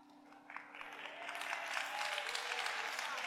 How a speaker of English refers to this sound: I know that's the one you like to hear. See them clap. Since I've been preaching, you have not clapped. You have not clapped.